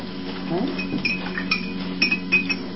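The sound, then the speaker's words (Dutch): A small lighter drops onto a hard surface, giving a few quick, bright clinks and clatters spread over a couple of seconds, against a steady low background hum. “Dat was de aansteker die viel.”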